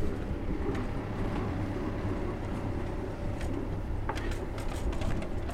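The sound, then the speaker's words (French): A boat engine is started and rumbles steadily, a loud, continuous low drone with a faint mechanical hum, accompanied by occasional light clicks and clatter and no voices. “Tout le monde se coordonne et c'est parti, allumage du moteur.”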